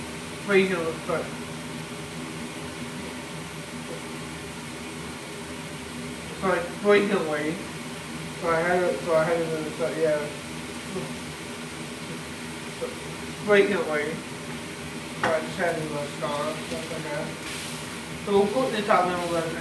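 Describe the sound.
A steady hiss of two burger patties sizzling in a frying pan runs throughout, with a person talking in short bursts over the constant crackle.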